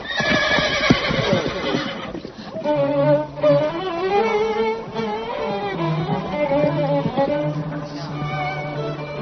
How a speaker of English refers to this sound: Could we hold the horse, please? What's wrong with the horse? The horse seems more jittery than the bride.